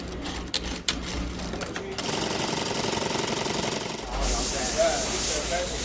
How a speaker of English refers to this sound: Designer Nanette Lepore makes most of her clothes right in the Garment District. She showed us around where her dresses get stitched, the buttons put on, and the fabrics steam.